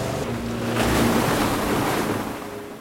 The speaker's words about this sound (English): Curtis scurries up a ladder and starts the boat. Gripping the pistol between his teeth, Finn hangs on for dear life as the boat surges forward through the water.